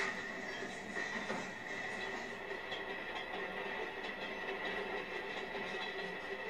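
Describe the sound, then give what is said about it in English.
A train rumbles along the tracks with a steady, continuous rattle and clatter, fairly loud, with faint metallic squeals riding over the constant rolling noise as the train shakes. “I stand firm because the train shakes.”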